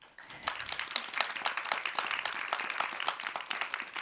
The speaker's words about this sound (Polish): Jest z nami Ewa Kuryluk, wielkie brawa.